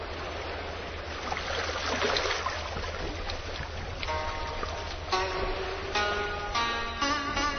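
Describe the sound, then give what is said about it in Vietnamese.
Water swishes and laps steadily as a small rowed sampan moves along a river, then drawn-out wooden creaks and squeaks from the oars come in at an irregular rhythm. “Ngồi ở phía trước chiếc tam bản đò chèo cọt kẹt, bước trên mặt sông để về Rạch Chiếc”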